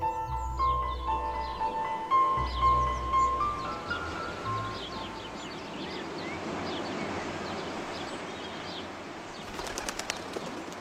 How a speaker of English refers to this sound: I'm up early, sitting on the veranda in my pajamas. The wood casts long shadows over the fields. Birds call.